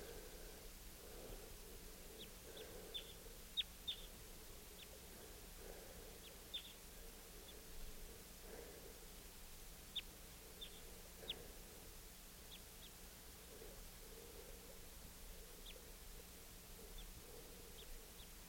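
wild bird calls

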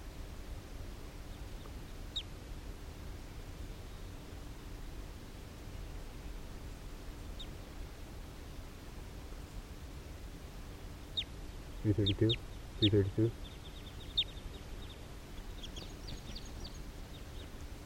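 wild birds calling

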